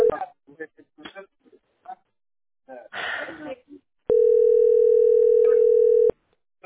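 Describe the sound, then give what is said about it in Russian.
People talk briefly, then a loud, steady telephone tone sounds for about two seconds, a continuous low hum with no breaks, before cutting off into silence, as a call to a landline or mobile number fails to go through. “Как с этого звонить? Да, блин, на городской номер либо на мобильный. Ни туда не проходят.”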